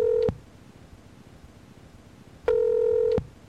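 Two steady electronic telephone tones, a short beep followed after a two-second pause by a longer one, clear and fairly loud over faint background hiss, with no voices, as a phone call is placed to the offices of Margot Rubio.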